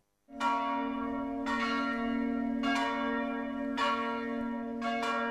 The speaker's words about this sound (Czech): Zvona sa hrama Svetog Petra i Pavla pozvali su na svetu arhijerejsku liturgiju koju je predvodio patrijarh srpski Porfirije u sasluženje 6 arhijereja Srpske pravoslavne crkve.